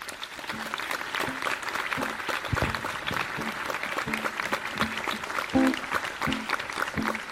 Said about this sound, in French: Je vous demande d'applaudir bien fort Nicolas Thiébaut.